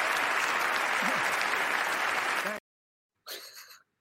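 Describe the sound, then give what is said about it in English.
Dense, steady applause from a crowd runs loudly for about two and a half seconds, cuts off abruptly, then a brief, thinner burst of clapping follows after a short silence. “Dude, we've got to look at this second guy clapping.”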